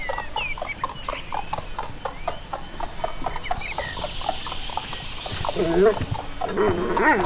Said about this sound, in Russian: А к нему подъезжает карета? Ну, с двумя лошадками. Ну, не карета, а, скажем, экипаж.